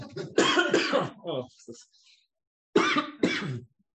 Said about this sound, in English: Cough. I think cold water makes it worse. I need to get some hot water up here later.